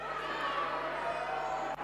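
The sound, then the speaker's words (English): A large crowd of people imitating cats, their overlapping meows merging into one loud, sustained wash of voices that breaks off abruptly near the end. “Can I hear the cats meowing?”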